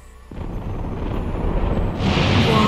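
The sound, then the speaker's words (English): A panning thunder sound effect rolls in suddenly and keeps building, deep low-end rumble swelling with a brighter crackling wash near the end, loud and continuous with no voices. “That sounds so much better on earphones. The panning thunder.”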